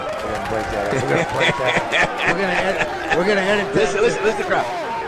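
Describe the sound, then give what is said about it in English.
A Cowboys football team cheering and shouting over one another in the locker room: a loud, steady wall of excited overlapping voices, broken by occasional whoops and bursts of laughter. “Listen to the crowd. I'm telling you, the boys are going nuts.”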